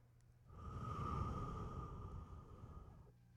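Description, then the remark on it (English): A single long, steady breath is blown into a balloon, further inflating it, an airy rush with a faint tonal hum, lasting about two and a half seconds before stopping. “I'm further inhaling into the balloon.”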